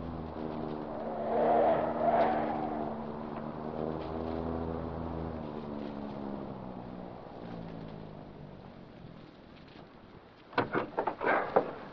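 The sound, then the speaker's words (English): A car engine rumbles, its pitch rising and falling as the vehicle slows and turns into an alley in the dark, two blocks short of Murray Lane, followed near the end by a few sharp, brief clatters. “I'll turn into this alley.”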